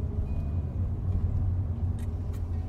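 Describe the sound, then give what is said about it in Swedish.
A car drives along steadily on its way to a weapons factory, its deep engine and road rumble at an even level throughout, with a couple of faint brief ticks near the end. “Men här är bilen på väg till vapenfabriken.”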